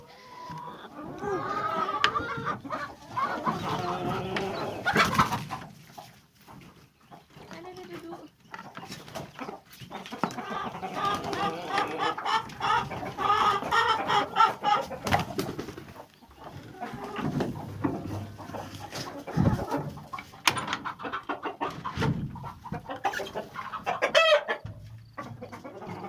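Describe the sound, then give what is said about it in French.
Hens cluck and chatter busily as they come out of the coop after its trapdoor is opened, with a rooster's call and some farmyard bustle mixed in over a continuous, lively background. “Les poules vont sortir et puis voilà.”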